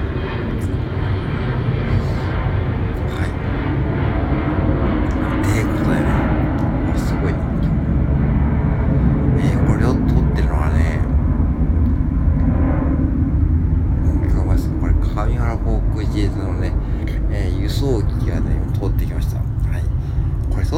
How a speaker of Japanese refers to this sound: 夕方6時ですよ。夕方6時でこんな飛行機が通るんですね。この地域はね。